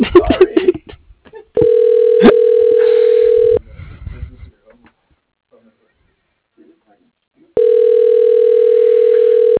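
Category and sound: signal or alarm, telephone ringing tone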